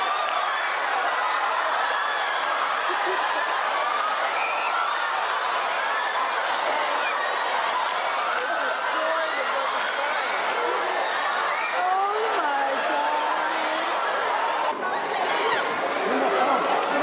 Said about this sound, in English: Crowds, masses, now they're packed outside of a retail store. They're pressing in.